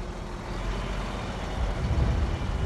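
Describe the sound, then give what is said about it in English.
A heavy truck engine rumbles steadily with a broad hiss of air brakes, growing a little louder toward the end, on a cold February day; the truck is heading to Fort Myers, Florida. No one speaks. “By the time you listen to this, that truck is on its way to sunny Fort Myers, Florida.”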